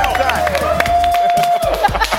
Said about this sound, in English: Give me that clap. That's how you clap in daycare.